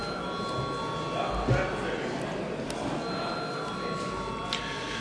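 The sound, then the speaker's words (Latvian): A steady electric bell rings continuously for several seconds in a parliamentary chamber before a vote on a bill, a sustained buzzing tone with even loudness and faint background murmur beneath it. “Jā, paldies, lūdzu zvanu.”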